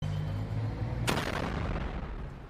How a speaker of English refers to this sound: It seems like something exploded, or maybe there was some bullet was fired. It seems that the truck kind of detected that there would be an explosion, and they're now moving the truck forward.